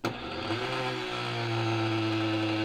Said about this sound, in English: So here we are, you know, it doesn't take much in this very powerful blender.